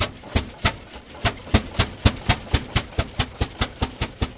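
A Rumely Oil Pull tractor engine booms to life after a few adjustments, puffing black smoke, firing in steady, sharp chugging blasts about three per second over a low rumble, with no voices.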